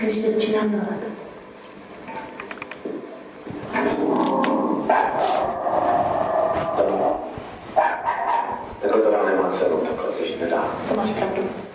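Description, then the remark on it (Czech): A dog barks and growls in several loud bursts at an unwelcome man, with short pauses between them, while people talk in the background. “Já bych tě sem ráda pustila, ale pejsek by se zlobil, víš? Vadíš mu.”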